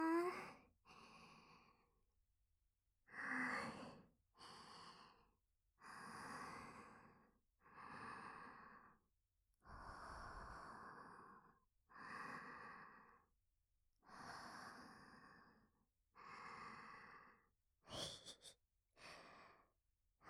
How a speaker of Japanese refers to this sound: 私の吐息、どうかな？ちょっとエッチだと思わない？